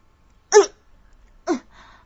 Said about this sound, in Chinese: 门口传来了两声咳嗽，女孩一惊，转过了头，却没看到人。